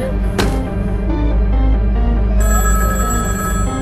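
A telephone rings loudly and steadily for a few seconds, a bright sustained ringing tone with a sharp click near the start and no voices over it.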